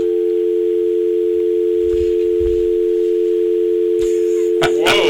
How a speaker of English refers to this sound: Whoa. I have a dial tone. There we go.